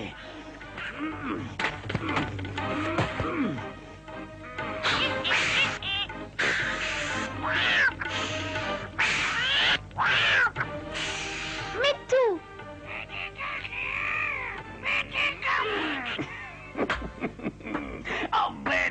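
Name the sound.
parrot squawking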